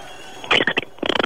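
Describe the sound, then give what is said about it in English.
A person does an impersonation of Flipper, imitating a dolphin's call with two quick bursts of high, squeaky, rapid-fire chattering clicks, separated by a short pause. The sound is fairly loud and has no talking over it. “give us your impersonation. Mate, all I've got is Flipper.”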